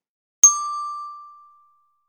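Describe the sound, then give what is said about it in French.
A single bright bell chime, a cue to reread sentences, strikes once and rings out with a steady, clear tone that fades smoothly over about a second. No voices accompany it. “Au son du timbre, relis les phrases après moi.”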